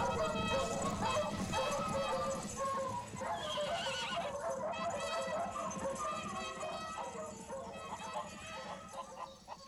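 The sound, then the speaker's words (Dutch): A pack of hounds bays and barks while hunting horns blare over them, a dense, loud, continuous din with horse whinnies and hoofbeats mixed in throughout. “En een roedel honden begeleid door jachthoorns.”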